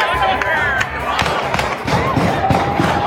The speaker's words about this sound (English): Graduation day shooting. Chilling video as gunfire erupts moments after a high school ceremony in Virginia.